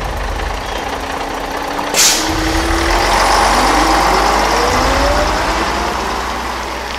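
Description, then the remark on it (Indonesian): A bus engine runs steadily with a deep, loud rumble as the bus departs at 8 p.m. at night, its pitch slowly rising and shifting as it pulls away, with a brief hiss of air partway through. No one speaks. “Hingga tak lama, bis pun berangkat jam 8 malam.”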